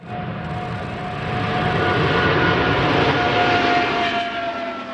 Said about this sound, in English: Boeing completed the maiden flight on the world's largest twin-engine jetliner. It is a 777X.